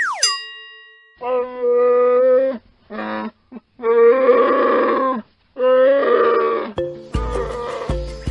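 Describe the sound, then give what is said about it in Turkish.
A bear roars and growls in several loud, drawn-out bursts, with short pauses between them. A brief sweeping tone opens the sequence and a rougher, raspier growl closes it. “Bu hayvanın adı ayı.”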